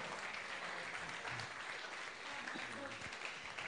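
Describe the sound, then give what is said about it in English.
A crowd breaks into steady applause for volunteers after a trust-fall demonstration, a dense wash of many hands clapping at an even loudness for several seconds, with faint murmuring voices mixed underneath. “Give my volunteers a round of applause.”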